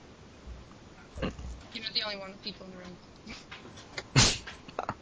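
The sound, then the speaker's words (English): A dog snorts and sniffs in a few short, irregular bursts, the loudest near the end, with faint voices murmuring in the background. “Somebody still has a dog, yeah?”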